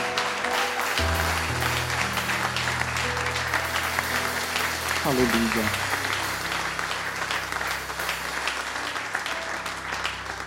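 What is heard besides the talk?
audience applause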